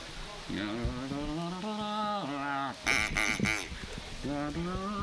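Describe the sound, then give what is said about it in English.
A person imitates a duck, making a steady run of nasal, buzzy quacks for several seconds, fairly loud, with a rougher, harsher burst of quacking in the middle. “I'm trying to convince myself I'm a duck, because then everything's all right.”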